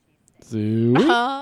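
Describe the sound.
A single loud, drawn-out shouted pig call, "Suey", from one person, held low and then jumping sharply upward in pitch near the end, ringing out alone.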